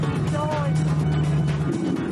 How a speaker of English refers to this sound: But oh no, the Destroyer's car is losing power. It sounds like that old Jeep engine has had enough Grand Prix punishment.